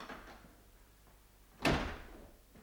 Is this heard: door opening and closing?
yes